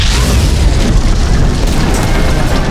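A heavy cannonball smashes into the forms, booming; its loud, deep roar rumbles on steadily for a few seconds with dense low-end crackle and no voices.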